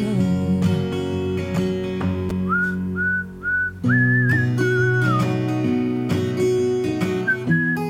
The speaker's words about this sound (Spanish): De momento aprueba el silbato, el silbido, este es patético, pero me recuerda a la primera versión, el blues. Esta es una versión cantada con gusto, la vocalización es buena y yo de momento la apruebo, sí. Pero por favor, esos silbidos que los quiten